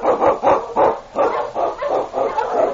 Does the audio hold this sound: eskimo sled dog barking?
yes